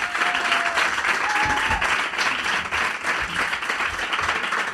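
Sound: audience applause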